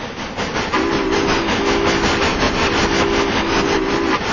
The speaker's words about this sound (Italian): proprio a Ospedaletto Lodigiano, vidi il mio primo treno e la locomotiva sbuffante.